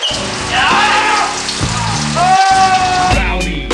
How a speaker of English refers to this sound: We're gonna take a shower, Captain. Here we go. Stand underneath this